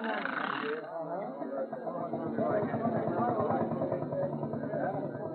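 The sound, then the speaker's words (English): A short burst of hiss gives way to a steam engine chugging into motion in a town square, its rapid rhythmic pulsing settling into a steady running beat with a muffled, old-recording tone. “The steam engine engine is all fired, Elmer.”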